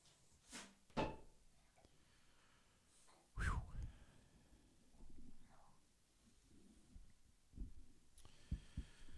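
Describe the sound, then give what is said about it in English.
A door opens with a handful of sharp knocks and clunks, followed by quieter shuffling and a couple more bumps over a low, murky background. “And you may have noticed a door open,”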